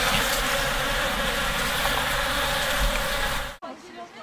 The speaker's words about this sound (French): Alors malheureusement, comme vous pouvez l'entendre avec le micro, il pleut très très fort.